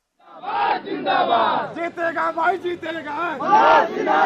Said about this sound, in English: Villagers chant praise for an Indian cabinet minister as he wades into a crowd in a dusty lot between farm fields in India's most populous state, Uttar Pradesh.